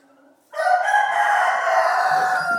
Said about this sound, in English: That was the rooster, not the turkey.